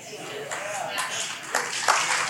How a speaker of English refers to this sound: Okay. That's on you now because you clapped. Just saying. Just kidding.